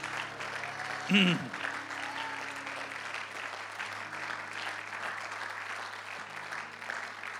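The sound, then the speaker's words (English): A church audience claps hands to the Lord in thanks, a dense, steady wash of applause lasting several seconds, with a brief raised voice rising above it near the start and a low hum underneath. “Come on, let's clap our hands to the Lord and thank him.”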